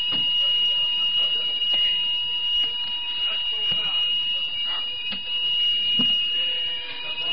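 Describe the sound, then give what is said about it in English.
A building fire alarm rings steadily and continuously throughout a lecture, a loud, high-pitched electronic tone that never pauses, with faint muffled voices and room noise underneath. “Brother, it's a bit difficult to hear you with this alarm going on.”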